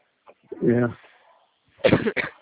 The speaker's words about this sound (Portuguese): Tô numa tosse, peguei um resfriado.